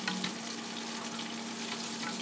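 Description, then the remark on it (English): Hot oil crackles and sizzles loudly and steadily as a frying basket is shaken in it, with a few sharper spits early on and a low steady hum underneath. “Shake this basket around a little bit here.”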